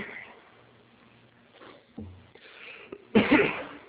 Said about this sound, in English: A really bad cough today.